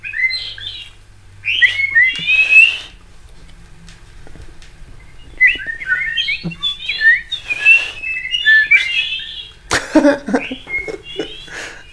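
A person whistles bright, trilling bird-like phrases in several bursts separated by short pauses, close and fairly loud, with a faint low hum underneath.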